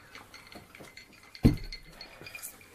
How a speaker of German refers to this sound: Haben vielleicht zum letzten Mal, zumindest für den Podcast, unsere Gläser gefüllt. Wir sagen nochmal Prost. Wohl, Prost, genau. Prost auf den wunderschönen, mittlerweile vorangeschrittenen Abend.